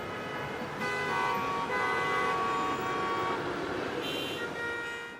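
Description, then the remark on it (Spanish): Busy, chaotic street traffic in El Espinal, a small town in Tolima, with a steady roar of engines and several overlapping car horns honking, some long sustained toots layered over the constant rumble. “Con calles ruidosas invadidas por el caótico tráfico.”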